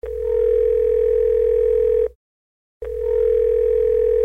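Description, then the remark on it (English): A telephone ringback tone from an outgoing call to Tanzania: a steady, fairly loud electronic purr lasting about two seconds, a brief silence, then the tone starting again, with no voices. “To find out more about what it's like to be a gay man in Tanzania, we are going to phone”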